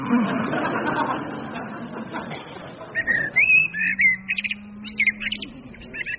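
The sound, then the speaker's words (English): A blackbird sings a run of clear, fluty warbling phrases in short bursts, following a few seconds of murky, rumbling noise, with a low steady hum running beneath part of the song. “I'm going to kill that blackbird.”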